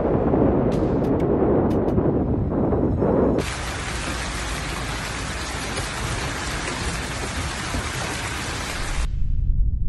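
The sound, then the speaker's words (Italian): Heavy rain and hail pour down steadily on the streets of Shakra province and the capital Riyadh, Saudi Arabia: a dense roar of drops with sharp impacts at first, then a continuous hiss of downpour that eases near the end. “Le strade della provincia di Shakra e della capitale Riyadh sono di nuovo inondate di pioggia e coperte di grandine.”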